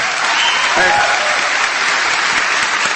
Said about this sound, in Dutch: Fantastisch. Een applaus.